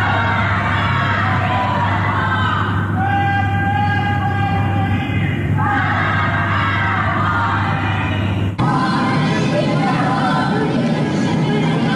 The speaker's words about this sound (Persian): در آستانه سالگرد جان باختن مهسا امینی شامگاه جمعه مردم در برخی محله‌های تهران شعارهای ضد حکومتی سر دادند.